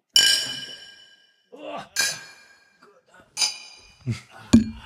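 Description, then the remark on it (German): Glasses clink together in a toast toward the microphone, three or four bright, ringing taps spaced a second or so apart, each tone lingering briefly, with quiet voices murmuring between them. “Direkt nochmal dem Mikrofon zugeprostet.”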